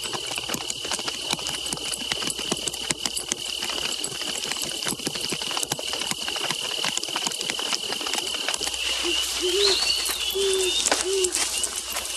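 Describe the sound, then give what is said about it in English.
Horses carrying riders gallop across the landscape at dawn in a fast, continuous drumming of hooves, with a steady high hiss over it and a few short chirping calls surfacing near the end. “As dawn breaks, riders streak across the landscape.”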